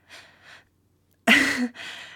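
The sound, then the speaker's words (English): Heavy breathing of a person searching someone for weapons: two soft breaths, a pause, then a loud, harsh rush of air and another quicker breath right after, with no talking. “You know, I don't think most of the people who check me for weapons are breathing so heavily.”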